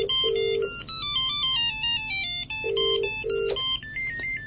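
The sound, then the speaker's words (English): A melodic electronic phone ringtone, a custom ringtone set for one contact to identify the caller, plays on its own, a bright synthetic tune of stepping notes with repeated buzzy pulses, ringing steadily and fairly loud for several seconds. “And I've set up a number of differential ringtones like that so that I can tell who's calling.”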